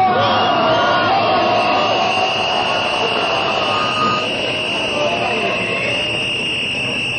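A large protest crowd in Belgrade, Serbia, at a protest by the civic initiative Ne davimo Beograd demanding a restaurant be closed, roars continuously, with overlapping shouts, chanting and whistles forming a dense, loud wall of sound that stays steady throughout.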